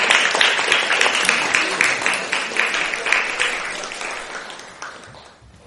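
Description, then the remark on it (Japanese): A big round of applause from a church audience welcoming a guest pastor: dense continuous clapping with many rapid overlapping claps, loud at first and gradually fading toward the end. “大きな拍手を持って、先生をお迎えしたいと思います。”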